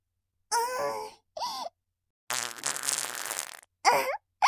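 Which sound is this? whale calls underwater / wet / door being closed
wet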